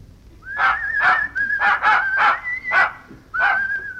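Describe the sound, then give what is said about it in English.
A dog whines in a steady, high-pitched tone, broken by about seven short, sharp barks and yips in a quick, uneven rhythm, fairly loud with no voices. “Hello, Pooch.”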